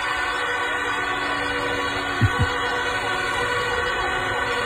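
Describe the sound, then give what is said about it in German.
Many emergency vehicle sirens of fire brigade, police and ambulance vehicles wail together at once on the parking lot of a children's clinic in Venlo, in a dense, continuous chorus of overlapping tones, steady and loud throughout, with a couple of brief low thumps partway through. “Wie klingt das, wenn alle zusammen das Martinshorn anmachen?”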